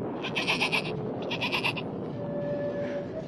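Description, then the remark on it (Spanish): Two wavering bleats from a sheep, fairly loud, one after the other over a steady low background rumble, with a faint thin tone lingering near the end. “Y la oveja enferma se perdió.”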